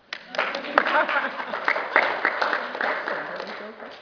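An audience breaks into steady applause, many hands clapping together in a dense, sustained patter with a few sharper individual claps standing out, holding at an even loudness for several seconds.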